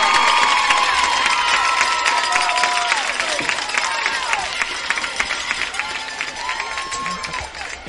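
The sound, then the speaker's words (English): A large stadium crowd of Raiders fans roars and cheers continuously at a football game against the Aggies with 20 seconds left, a dense wall of voices and shouts with scattered whistles and clapping rising over it, loud throughout the whole stretch. “Listen to the Raider crowd.”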